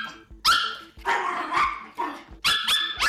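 A dog barks loudly, letting out a rapid series of about six sharp barks in quick succession, with no one talking.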